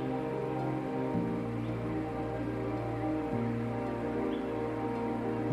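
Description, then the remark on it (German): Steady ambience of a rainforest in a national park, with a dense, rain-like hiss that continues evenly throughout, accompanied by low sustained humming tones that shift pitch a couple of times. No one speaks. “Über 2000 verschiedene Pflanzen findet man hier im Regenwald.”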